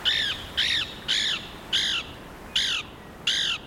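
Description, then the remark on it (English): A Lewis's woodpecker gives six harsh, raspy calls in a steady series, each short, loud and fairly high-pitched, spaced about half a second apart with no voices. “Lewis's woodpeckers also nest along rivers in large cottonwoods, trees of little value for timber.”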